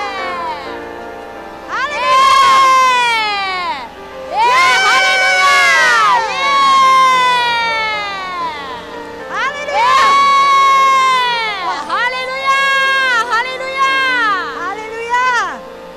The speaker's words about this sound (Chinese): 好，我喊一二三的时候，让我们就是一同发出胜利的喊叫声，让我们神的儿女夺回这喊叫的权利，好不好？一二三，耶！